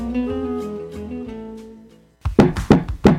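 A short musical tone fades out, then after a brief silence comes a burst of loud knocking on a door by a DNR officer, about five heavy raps in an uneven, urgent rhythm.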